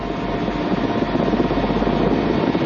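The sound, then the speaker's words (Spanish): A helicopter's steady, loud engine and rotor drone fills the whole stretch, a continuous rumbling roar with no pauses and no voices, as it flies over a forested landscape and the Lost City archaeological site on mountain slopes in South America. “Disfruta desde el helicóptero de un espectacular paisaje boscoso.”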